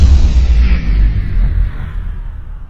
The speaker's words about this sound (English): Sounds like some sort of an explosive either detonated, going off. And I thought I saw a fire in one of those windows as we panned over to the right. There's obviously gunfire explosions going off at this time.